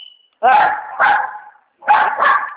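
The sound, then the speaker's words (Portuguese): Dogs bark loudly at people out front, in two quick pairs of sharp, harmonic barks separated by a short pause, with no voices over them. “Ai, meu cachorro, vai. Fala. Tá bravo aí? Ai, não, é que tem gente ali na frente. Ah, mas eles logo param de latir.”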